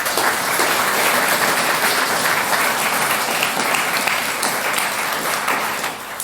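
Sustained crowd applause, many hands clapping in a dense, steady wash of noise that stays loud throughout and dips slightly at the very end.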